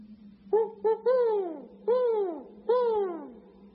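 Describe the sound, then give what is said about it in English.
A man imitates a great horned owl outdoors at night under the moon: two quick hoots, then three longer, falling hoots spaced evenly apart. They are fairly loud, over a faint steady low hum. “The sound of a great horned owl.”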